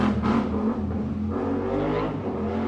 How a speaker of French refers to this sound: Le mec est passé en wheeling à moto, là juste en bas. Il s'amuse.